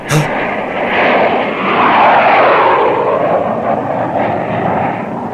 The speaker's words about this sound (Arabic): انبطحا أرضا، انبطحا أرضا، هذه طائرة للعدو حصلت علينا.